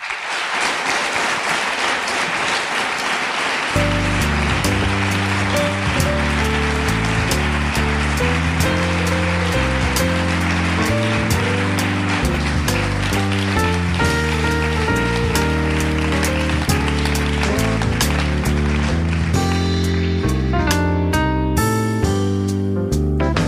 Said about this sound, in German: Klatsche bitte